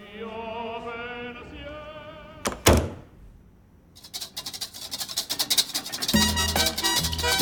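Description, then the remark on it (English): A man pushes the door of an open-plan loft apartment shut with one solid, loud thud as he moves in to kiss a woman, after soft, sustained tones, then a dense stretch of busy clattering and rustling noise follows. “He looks down at her mouth and moves tentatively in to kiss her, pushing the door shut as he does so.”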